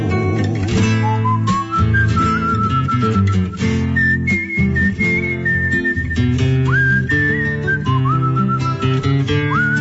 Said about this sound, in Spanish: Como le cuesta a la pobre ayudarla con el silbo, ayudarla con el silbo.